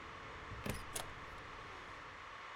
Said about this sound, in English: You can sneak into my room when I'm not here, but footsteps in this big metal echo chamber, they're not silent. Walk back and forth in front of my door like that, and I'm gonna notice.